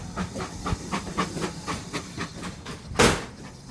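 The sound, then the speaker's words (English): A 0-6-2 steam freight locomotive, number 6619, on the 9:45 Sheringham train, the first train of the day, passes with steady hissing steam, rhythmic chuffing and clattering wheels, and one sharp louder burst of steam near the end. “And that was the first train of the day? That was the first one, 9:45 Sheringham, 6619 on the front.”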